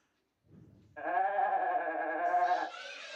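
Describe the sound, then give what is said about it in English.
A single loud, drawn-out goat bleat with a wavering, nasal tone, lasting nearly two seconds after a brief low rustle, with no talking. “A goat! Boom. 1 point.”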